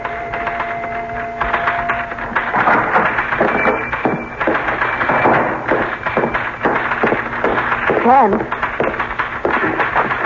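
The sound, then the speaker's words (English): Steady, rapid clacking of typewriter keys at a newspaper as someone types up the story of the previous night's events, fairly loud, with irregular bursts of strikes and a low hum underneath. “I'm beginning to feel jealous of that typewriter. What are you writing now?”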